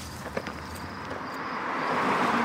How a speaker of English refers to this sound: Car!